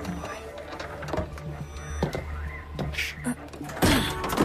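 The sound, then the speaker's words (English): A door opens with a mechanical whirring and rattling, followed by a louder clunk near the end. Faint voices sit underneath. “Open the door.”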